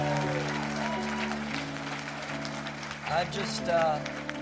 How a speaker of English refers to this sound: So would you give him a big round of applause